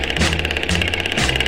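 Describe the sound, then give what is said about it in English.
A jackhammer pounds away in loud, rapid, rattling bursts, its harsh metallic hammering continuing steadily with no voices present. “Jackhammer started screaming, go cat go, to the rat-a-tat-a-tat, rat-a-tat-a-tat.”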